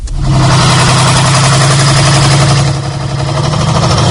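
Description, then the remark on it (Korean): A heavy tractor engine idles steadily as US troops load Korean men onto the tractor, a low rumbling drone with a constant throb that holds for several seconds, dipping slightly near the end. No voices. “미군이 트랙터에 조선인을 실었다.”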